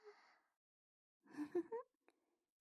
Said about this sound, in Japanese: 姉さんだって大きなあくびしてる。